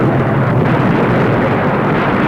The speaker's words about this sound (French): Il était temps, la voiture explosa.